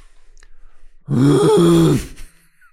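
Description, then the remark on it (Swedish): A person imitates a moose call with one loud, drawn-out groaning bellow lasting about a second. Its low, buzzy pitch swells slightly and then sinks, with near silence before and after. “Hur låter en älg?”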